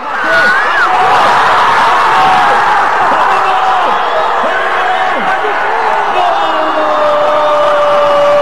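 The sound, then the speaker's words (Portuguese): A large football crowd at the Vila Olímpica roars and cheers after Richarlison's goal puts Brazil ahead in the 17th minute, a dense, sustained wall of shouting voices and whoops that stays loud throughout. “aos 17 minutos, o Brasil abriu o placar com o gol de Richarlison, e a torcida foi à loucura na Vila Olímpica.”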